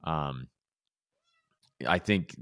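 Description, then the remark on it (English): A new male kitten, angry, lets out two loud, agitated meows, a short wail followed by a pause and then a longer, wavering cry. “We have a new kitten, and he is really mad right now. So that's why you're hearing what you're hearing.”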